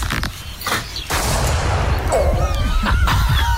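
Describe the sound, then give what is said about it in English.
A few sharp gunshot cracks from a slug gun fired at a drone in the country go off early, followed by a steady rushing roar with thin, wavering whistle-like tones, presumably the targeted drone, running to the end. “What are you trying to shoot? Drone. I'll get it. I'm not allowed to do it. It's illegal. Slug gun.”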